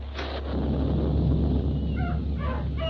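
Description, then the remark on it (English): A noisy jumble of dogs barking and cats meowing, with short yelps and mews popping out over a constant rushing background, fairly loud, no talking. “Gee willikers, look! It's raining cats and dogs.”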